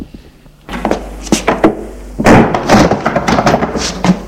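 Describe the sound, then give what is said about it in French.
A bathroom door is pushed shut, with a handful of sharp knocks and thuds followed by a stretch of busy rattling and shuffling noise. No one speaks. “Il ferme la porte de la salle de bain.”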